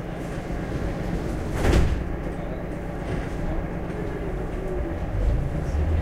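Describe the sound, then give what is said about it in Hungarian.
Train doors slide shut with a single sharp thud, set against the steady low rumble of a train interior that continues after the doors close. “Vigyázzanak, az ajtón záródnak.”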